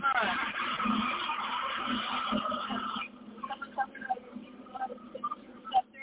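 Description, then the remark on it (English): A high school bus rumbles by loudly with a high squealing edge for about three seconds, then falls away to quieter background sounds and faint voices. “There's the bus, folks.”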